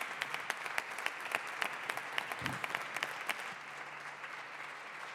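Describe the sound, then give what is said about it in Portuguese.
Steady applause from many people clapping together in Portugal's Assembleia da República after a speech by deputy Alexandre Quintanilha, a dense crackle of claps with sharper individual hits, holding moderately loud for about four seconds before thinning and fading out. “Estes aplausos justificam a tolerância com que a mesa deixou falar o Sr. Deputado Alexandre Quintanilha, porque começou a fazer agradecimentos, não podia estar a interromper no meio dos agradecimentos”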